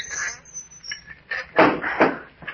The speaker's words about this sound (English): Hey, the trap door's unfastened. Yeah, it seems to be. Up we go. There it is. Okay, come on up. Shall I close the trap door again? Yeah, might as well.